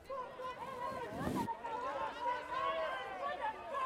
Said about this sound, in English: The crowd began to boo as he was led away.